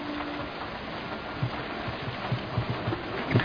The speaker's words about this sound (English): Man, it's really coming down out there. Yeah, I just started pouring all of a sudden.